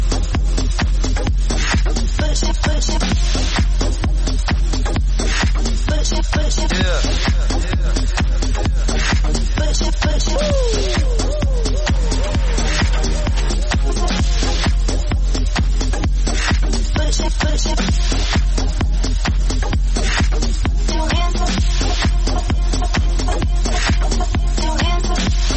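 An electronic dance-pop track plays loudly and continuously, driven by a steady, pounding four-on-the-floor beat with dense, bright synth layers filling the whole mix from start to finish.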